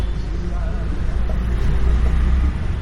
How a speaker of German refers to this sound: Nach dem Bus besteigen wir eine Motorrikscha.